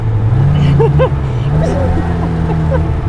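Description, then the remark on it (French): The engine of a stuck car drones loudly as people push the car, its low hum holding steady with slight rises in pitch as it strains, while voices call out over it. “Oh, il faut reculer à fond là-bas, faut pas tourner là, sinon tu n'arriveras pas.”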